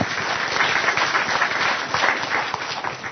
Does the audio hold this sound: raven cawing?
no